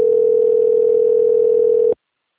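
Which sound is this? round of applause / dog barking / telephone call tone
telephone call tone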